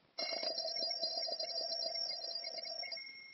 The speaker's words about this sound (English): Situation 1. Getting up in the morning. The alarm clock rings.